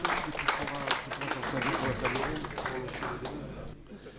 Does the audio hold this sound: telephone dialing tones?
no